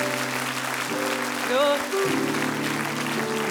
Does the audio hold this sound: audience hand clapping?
yes